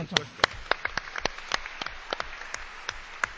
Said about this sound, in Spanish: ¿Podemos dar un aplauso al organista?